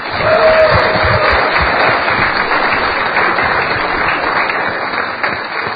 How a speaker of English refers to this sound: Yeah, that's deserving of a round of applause.